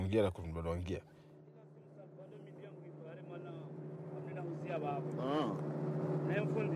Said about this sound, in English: describes the boat journey on the Kwasa Kwasa from Anjouan to Mayotte, some of which he recorded for us. There were 17 people on the boat.